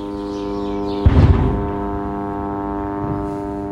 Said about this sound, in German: Was man hier hört, das sind Drohnen, die Anja Betzold von ihrem Zimmer aus aufgenommen hat. Israel, die hat ja ganz viele Drohnen im Einsatz. Und der Sound und auch Bombeneinschläge, die sind in Gaza praktisch durchpräsent.